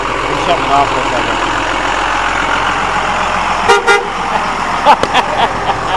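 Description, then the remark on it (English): A car horn beeps in two short bursts, a quick double toot followed a second later by a few more quick honks, over a steady rumble of an idling engine and traffic. “And then beep in his horn.”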